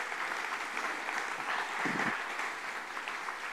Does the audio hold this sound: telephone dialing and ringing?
no